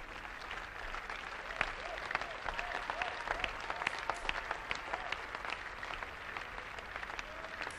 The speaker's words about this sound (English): I like your clapping. And I will take that with me everywhere I go.